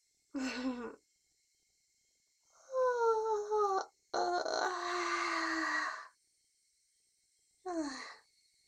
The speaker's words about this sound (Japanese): お主が眠そうな顔じゃから、ついあくびが出てしまった。